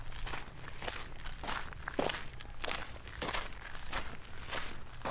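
Steady footsteps walk along outdoors through a large cemetery toward a grave, crunching softly in a regular rhythm over about five seconds, moderately loud, with no voices.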